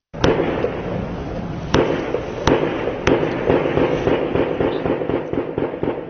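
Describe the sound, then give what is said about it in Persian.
Heavy gunfire and explosions around a building near Srinagar in Indian-controlled Kashmir, where Indian security forces fight militants holed up inside with grenades and machine guns: several loud, sharp bangs at irregular intervals cut through a constant rumbling, crackling din of shots, with no voices. “صدای درگیری شدید و انفجارها در اطراف یک ساختمان در نزدیکی سرینگر، مرکز کشمیر تحت کنترل هند شنیده می شود.”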